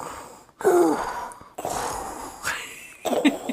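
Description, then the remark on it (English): A voice imitates Darth Vader's heavy, mechanical respirator breathing from Star Wars: a few slow, hissing inhale-and-exhale cycles, with no talking. “So every time a door opens in this film, it's Darth Vader's breathing.”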